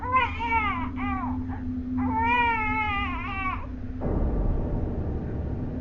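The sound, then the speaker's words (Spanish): A baby cries in long, rising and falling wails, several bursts in a row over a low steady hum, before the crying stops and a rough, rushing noise takes over. “Era un llanto, no de esos que suenan como balbuceos o movimientos de bebé, no. Era un llanto real.”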